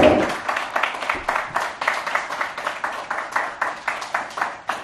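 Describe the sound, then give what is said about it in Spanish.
An audience at an awards ceremony claps together in a steady, rhythmic beat, the applause loud, continuing for several seconds without anyone speaking. “Pues venga, ese aplauso.”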